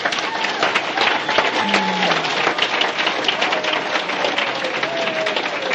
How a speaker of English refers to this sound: Could you please have one more round of applause for him?